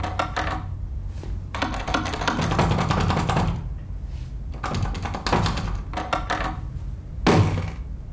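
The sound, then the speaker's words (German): The handle of an apartment's front door is pressed down and rattled several times against the locked door, giving metallic clicks and clunks in bursts, ending with a louder thud. No one speaks. “drückte die Türklinke der Wohnungstür hinunter und war kurzzeitig irritiert. Denn die Wohnungstür war verschlossen.”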